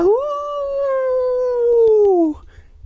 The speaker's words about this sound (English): Hideous howls like an animal in pain, but too human to be from an animal. Long, shrill howls that cut through the air and echoed down the hill.